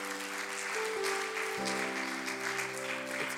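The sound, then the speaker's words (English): An audience claps hands in sustained, dense applause in praise of the Lord while sustained organ or keyboard chords ring underneath, the clapping steady and fairly loud throughout. “I wonder if you could give the Lord a hand clap of praise.”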